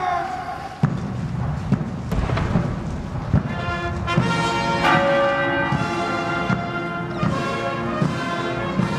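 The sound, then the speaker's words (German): Church bells ring out in a dense, resonant wash with sharp booming gun salute shots at intervals, accompanying a short funeral procession to a chapel, over a steady outdoor background with faint voices. “Danach begann die kurze, von Salutschüssen und Glockenschlägen begleitete Prozession zur Kapelle.”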